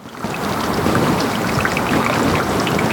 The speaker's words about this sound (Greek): Αυτός είναι ο ήχος ενός παγετώνα που λιώνει.